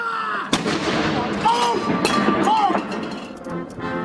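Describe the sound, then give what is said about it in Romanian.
A booming cannon blast rings out, part of a 41-gun salute welcoming Chinese President Xi Jinping and his wife, received by the Queen, followed by echoing reports and a busy outdoor crowd murmur, with a few more thuds and faint calls in the background. “Liderul chinez a fost primit cu 41 de salve de tun, după care a trecut în revistă Soldații Gărzii Regale.”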